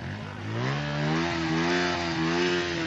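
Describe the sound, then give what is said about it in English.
A shiny Halawa Tiger motorbike carrying a passenger on the back revs up in the streets of Gaza City, its rising harmonic whine climbing in pitch, then holds a steady, loud buzzing drone with slight surges in throttle, no voices present. “I'm on the back of a very shiny-looking bike, the Halawa Tiger”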